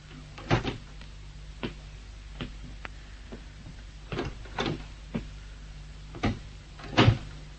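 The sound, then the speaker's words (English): A door is opened amid a scattered series of sharp clicks and wooden knocks, irregular and fairly quiet, with the loudest rattles near the start and end. No one speaks. “Through here and the door on your right.”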